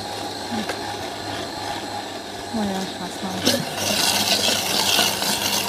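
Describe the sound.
A blender whirs with a steady motor hum for a few seconds, then surges into a louder, rougher churning as it mixes a chocolate drink, with a faint voice briefly audible underneath.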